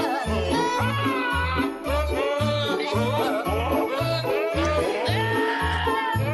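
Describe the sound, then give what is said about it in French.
Goat bleats pitched and edited into the Christmas tune Jingle Bells, loud over a steady, bouncy bass-and-beat backing track, with wavering bleating notes carrying the tune throughout. “Jingles Bells chanté par des chèvres.”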